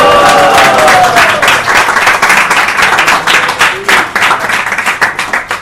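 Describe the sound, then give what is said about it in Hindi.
A crowd breaks into loud, sustained applause, dense clapping that thins into more distinct individual claps toward the end, with a brief cheer or whistle near the start. “ये कोई एग्जैगरेशन नहीं है तालियों की गड़गड़ाहट के लिए, ये वास्तविकता है, सच में।”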